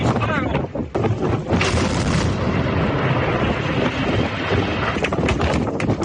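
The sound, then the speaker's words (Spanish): Explosive demolition of the 200-metre chimney of the thermal power plant in Carboneras, Almería, at midday: a string of sharp blast cracks over a loud, continuous roaring rumble as the explosives bring the structure down in a few seconds, with buffeting wind noise throughout. “Los explosivos empleados en la voladura la han derribado en apenas unos pocos segundos.”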